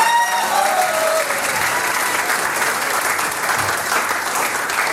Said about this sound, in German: Applaus 38 Jahre und kein bisschen leise, die …. Dankeschön, Burschen.